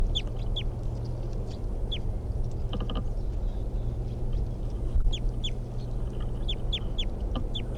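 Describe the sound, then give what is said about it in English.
A wild bird calls repeatedly with short, high-pitched, downward-sliding chirps, some coming in quick pairs, over a steady low rumbling background. No one speaks. “Wild bird.”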